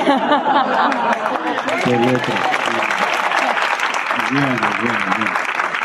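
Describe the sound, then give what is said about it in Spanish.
A crowd in Santiago applauds as Don Américo, auxiliary bishop of Lisbon, is introduced, with dense, steady clapping that holds at an even loudness for several seconds, while a few voices call out and chatter over it. “Los aplausos han sido más para aquel.”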